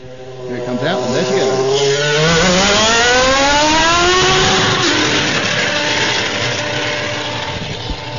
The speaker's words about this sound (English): So I think the next thing we'll probably do is record the engine noise, get you ready for the season.